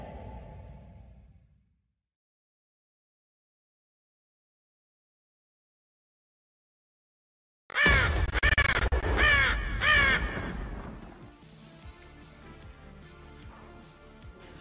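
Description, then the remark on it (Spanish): A crow caws loudly, a quick series of about five harsh, raspy calls that break in after a long silence, then settles into a quieter lingering background. “La noche de anoche, un cuervo mágico voló a las cuatro esquinas del universo conocido en busca de los más listos, los que más saben, los estudiosos del videojuego”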